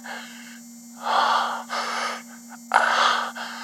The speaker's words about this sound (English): Hearing you panting and moaning is ramping everything up for me.